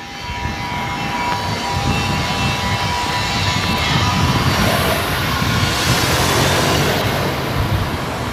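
A car drives past on a new road through an industrial area bordering fields, its steady engine and tyre rumble swelling to a broad whoosh as it passes, then easing off. No one speaks.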